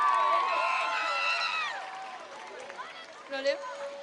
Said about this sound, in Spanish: ¡Fuerte el aplauso!